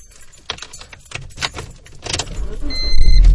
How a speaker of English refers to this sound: Okay, close my garage door.